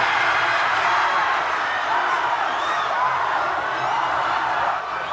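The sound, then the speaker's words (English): A crowd of hundreds of Seward locals at a cruise ship dock roars continuously as a local swimmer touches the wall first to win, a dense wash of shouting and cheering that stays loud and steady throughout, with voices blending together and no clear words. “The shouting soon turned to crying and hugging.”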